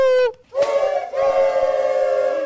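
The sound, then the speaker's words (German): A homemade horn, an empty toilet paper roll with very thin paper glued over it and blown into, blares a buzzy, kazoo-like tone: a short note that dips in pitch, a brief pause, then a long, loud, steady honk. “Das ist eine leere Klopapierrolle sozusagen und darüber ein ganz dünnes Papier. Das ist dann festgeklebt und wenn man dann da rein trötet, dann macht es ein Geräusch.”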